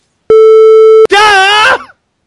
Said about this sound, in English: Ladies and gentlemen, I'm going to bleep this. When you hear this, so you're going to hear a bleep in a second, so please excuse my language, but no!